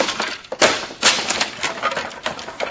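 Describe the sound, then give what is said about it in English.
Fabric lining is torn out of a trunk while searching it for hidden money, in a series of harsh, rasping rips and crackling jerks, loud and irregular, with no voices over it. “Now I'll rip the lining out of this trunk.”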